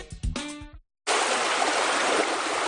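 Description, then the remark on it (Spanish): A short run of musical tones fades out, then after a brief pause a steady rush of running water trickles continuously to the end, loud and unbroken. “El agua es un recurso natural muy valioso, pero también es limitado.”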